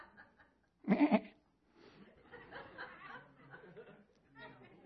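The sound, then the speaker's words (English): A man's voice lets out a loud, quavering goat-like bleat in one short burst, followed by murmured talking and soft laughter. “It's pretty good goat impersonation, wasn't it?”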